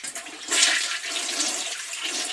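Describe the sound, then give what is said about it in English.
A toilet flushes with a loud, steady rush of water, a broad hissing gush that swells briefly near the start and then holds level to the end, with no voices. “Yeah, that's where things like this go, right down the drain.”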